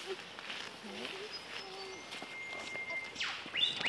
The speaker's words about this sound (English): So I think that is actually a whipbird because the two sounds are coming from different places. Okay, I don't have a picture of a whipbird, but they're about a medium-sized bird. They're brown color with a little bit of a crest on it.